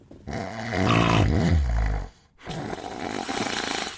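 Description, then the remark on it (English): Two long, loud snores, each a rough, rumbling drawn-out breath with a brief gap between them and no talking. “Well, apart from being annoying for anyone nearby, research suggests that snoring can cause significant decline in brain function.”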